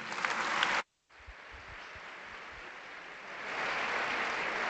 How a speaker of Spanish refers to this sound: Ovación para dos colectivos